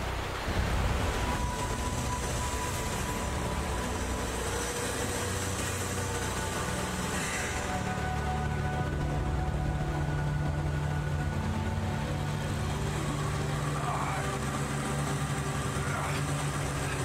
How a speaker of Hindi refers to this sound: गाड़ी को गियर में डालकर एक्सेलरेटर दबाओ।